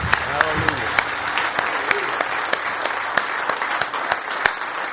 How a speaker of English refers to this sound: Amen. Let's give the Lord a hand clap tonight.